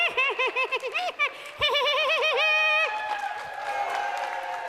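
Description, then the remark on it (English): A voice imitates the Woody Woodpecker laugh: a rapid, high, warbling staccato run in quick bursts, loud, followed by a crowd breaking into cheers and applause. “I can't do the Woody Woodpecker laugh.”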